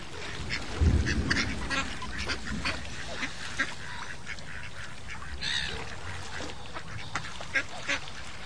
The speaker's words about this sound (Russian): И все утки стали громко крякать в знак одобрения.